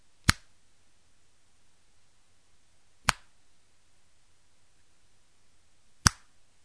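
Three sharp finger snaps mark the speed of a slow, steady beat for drumming along, spaced about three seconds apart, each a crisp bright click over a faint low hum, with no talking.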